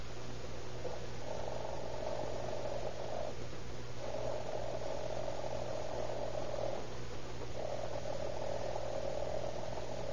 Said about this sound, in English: I just want you to listen while I ring this alarm clock. Just wait till I get it set. Yeah. Now, there she is, now.